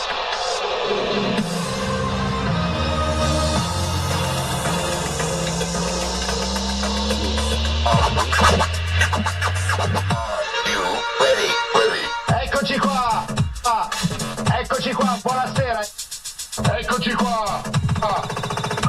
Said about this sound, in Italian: Se invece volete aggiornarvi sui prossimi eventi e le ultime notizie dal Politecnico, dovete ascoltare la raffica. Questa è la sigla.